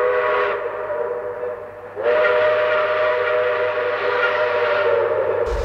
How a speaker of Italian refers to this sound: Alla fine arriva il treno speciale, che è diretto alla stazione marittima di Le Havre